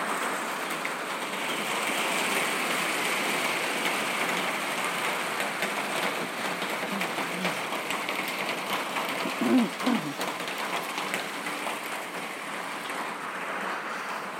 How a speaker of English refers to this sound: Absolutely throwing it down outside. It's been really weird. We've had like four bouts of this morning, and then it stops, and then it goes like someone's pouring buckets.